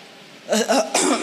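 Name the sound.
cough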